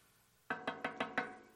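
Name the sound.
knocking on a door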